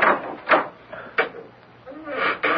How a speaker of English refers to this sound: But would you hold the lantern for me, please? The key doesn't always fit the lock. You may open the door.